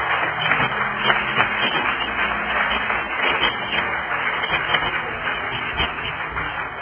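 An audience applauds steadily for about seven seconds in thanks for the person who introduced the evening's speaker, a dense, even wash of many hands clapping at once with no voices rising above it.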